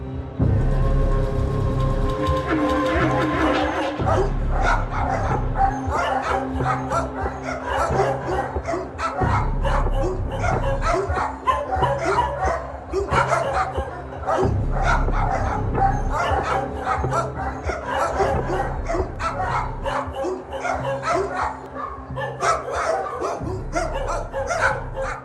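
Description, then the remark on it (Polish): Many dogs bark continuously in a loud, echoing chorus at the Happy Dog animal shelter, with overlapping yaps and occasional whimpers filling the space. “Muszę powiedzieć, że już samo wejście do tego schroniska jest cokolwiek specyficzne.”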